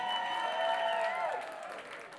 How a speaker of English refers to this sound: Hey, a big cheers to our good buddy TLP, Terry Lovepoint. He's our sound engineer and he's on tour with us. He's doing a very fine job. Let's have a big round of applause for TLP.